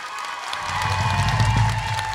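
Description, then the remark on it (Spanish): An audience at a live music performance bursts into loud, sustained applause, dense clapping swelling after a brief quieter start, with a low rumble of voices and cheering mixed underneath. “Un saludo grande a todo el país, porque aplaudan fuerte.”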